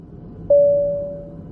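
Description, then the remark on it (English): A single airplane cabin call bell chime rings out clearly over a low background hum, a bright pure tone that slowly fades away over about a second. “If there's a doctor on the plane, could you please press your call bell?”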